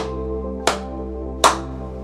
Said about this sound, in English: I let go in the most compassionate, loving light. I release this energy and clap 3 times.